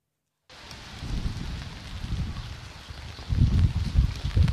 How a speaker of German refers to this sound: Es regnet in Strömen in Agios, einem 900-Seelendorf im Norden der Insel Evia.